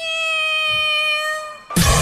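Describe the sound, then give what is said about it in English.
A person imitates a cat for Steve Harvey, who asked for an animal impersonation, with one long, drawn-out meow, steady and slightly falling in pitch, held loudly for over a second before a sudden burst of broad noise cuts in. “I would love to mimic a cat.”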